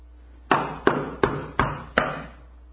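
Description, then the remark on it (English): Five firm knocks on a door, evenly spaced in a steady rhythm, each hit sharp with a short resonant ring, and no voices. “They are knocking on the door.”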